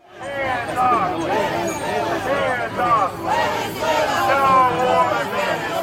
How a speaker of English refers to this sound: there was a group of protesters across the street voicing support for Maduro. The group was waving Venezuelan flags. Some had placards that read, "Free President Maduro." Here's a bit of what the crowd sounded like.